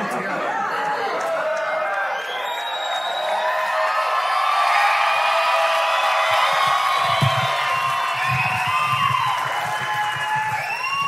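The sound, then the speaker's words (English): A large crowd cheers, shouts and whoops loudly and continuously for about eleven seconds, a dense wall of excited voices with scattered high yells and some clapping. “I thought this might be a rowdy crowd, and I was right”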